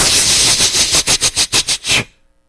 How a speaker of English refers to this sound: And big old rattlesnake.